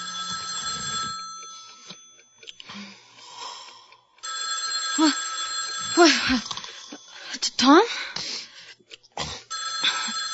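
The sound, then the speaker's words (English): A telephone rings in long, shrill bursts with brief pauses between them, loud, while a person calls out over the ringing. “Get the phone.”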